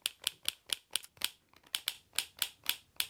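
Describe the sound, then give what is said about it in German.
A school bag buckle clicks over and over, about a dozen sharp, bright plastic snaps in a quick, fairly steady rhythm, with no voices. “Hier nochmal eine Schulranzenschnalle.”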